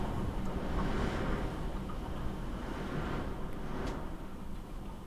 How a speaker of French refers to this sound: On entend le vent et la pluie.